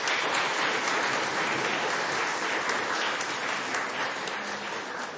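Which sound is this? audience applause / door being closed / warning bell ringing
audience applause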